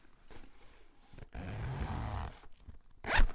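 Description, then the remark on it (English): The zip of a ripstop Bits by B bag, bought at the Cargo Cat in Sheffield, is pulled in a couple of quick rasping strokes, one long sustained zipping burst in the middle and a short sharp one at the end, with no talking. “This is what the zip sounds like.”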